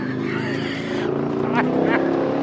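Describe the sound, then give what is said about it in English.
A yellow 638-horsepower ZR1 sports car engine idles with a deep, steady rumble, then revs up sharply twice in quick succession near the end. It is loud, with a voice faintly mixed in. “… shows off his sleek yellow 638-horsepower ZR1”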